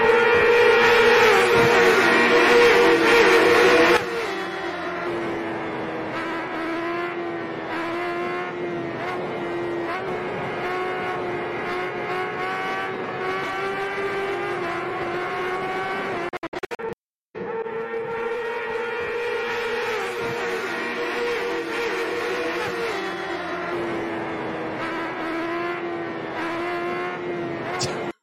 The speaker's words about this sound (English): There is this footage from, I don't know, motor races. I don't know how it's called, motorcycle races.